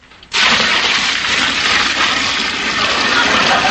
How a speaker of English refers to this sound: I better empty the water out of my shoes. Okay, but hurry. I will.